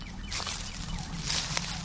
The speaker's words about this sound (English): That would be an emu.